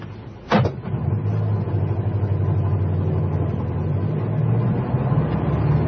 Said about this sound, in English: Hey, taxi! Follow that car. Quick, driver, there's a quid for you if you don't lose him.